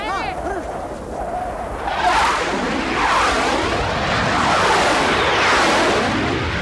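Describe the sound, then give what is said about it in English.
A thin whine gives way after a couple of seconds to the loud, sustained roar of jet aircraft on the soundtrack of the film Marooned in Iraq, as children launch paper airplanes over a cliff, swelling and sweeping in pitch as the jets rush past. “The soundtrack plays the roar of jets.”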